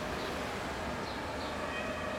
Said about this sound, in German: Ich stelle mir vor, ich sitze im Auto. Nein, im Zug. Das Fenster ist offen. Ich spüre die Stadt.